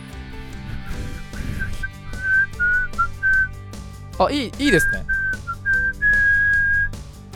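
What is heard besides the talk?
human whistling a tune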